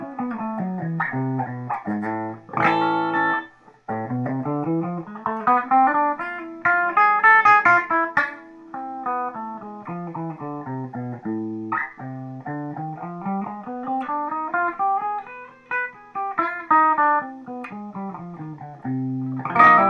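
An electric guitar with a crunchy, overdriven tone plays a continuous melodic run of notes and chord stabs, rising and falling in pitch, fairly loud with no voices.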